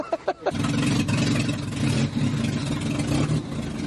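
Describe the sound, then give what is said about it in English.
A long-wheelbase van's engine cranks with a few quick chugs, then catches and fires into a loud, steady, rumbling idle that continues to the end. “Does it actually turn over and start?”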